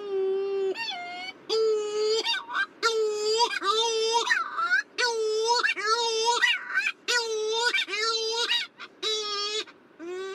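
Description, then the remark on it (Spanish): Cory's shearwater, a seabird that nests at night, calling at the cliffs of Gugui and Tamadaba in a series of about seven loud, nasal wailing phrases, each rising and falling like a crying baby, repeated in steady rhythm with brief gaps and no talk. “En los acantilados de Gugui y Tamadaba encontramos también la pardela cenicienta, que es un ave marina que suele nidificar por la noche y tiene un canto muy reconocible.”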